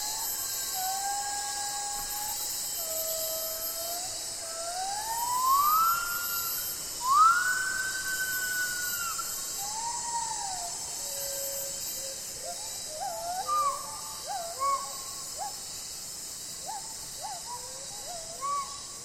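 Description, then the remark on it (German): Gibbon song from the rainforest of northern Sumatra: long swooping, rising whoops give way to quicker, choppy hooting notes, all carried over a constant high-pitched insect drone. “der Gesang der Gibbons, einer Menschenaffenart im Regenwald im Norden von Sumatra.”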